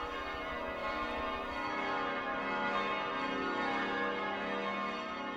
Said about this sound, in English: I recorded this in Vienna on Austrian National Day. The lowest bell you're hearing in the recording is the Pomeran bell, which is a really large bell, but it's also rather special because it really only rings a couple of times a year.